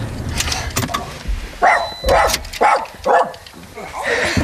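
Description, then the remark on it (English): Several dogs bark in a quick run of sharp, evenly spaced yaps, after a stretch of clattering, rustling background noise, at a home in the Atherton Tablelands in the hills behind Cairns, Australia. “Oh, look at all the dogs.”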